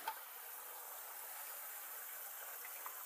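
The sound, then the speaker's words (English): Steady hiss of water running into a container to make coffee, a continuous bright rush with faint splashy flickers, fairly quiet, no voices over it. “Get water.”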